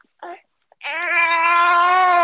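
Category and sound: human body sound, baby babbling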